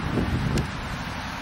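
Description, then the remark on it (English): Steady, loud wind roars across the microphone in rainy, wet weather, a broad low rumble with buffeting gusts and a brief whooshing burst partway through, no voices present. “Raining all the time. Got very windy.”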